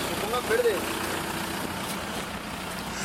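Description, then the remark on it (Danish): Steady city street traffic in León at 3 a.m.: a continuous wash of engine rumble and road noise, with a brief rising squeal early on, like brakes, over the constant hum. “Og Leon, der er i hvert fald mere trafik, end vi har set før.”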